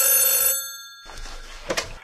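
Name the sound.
telephone bell ringing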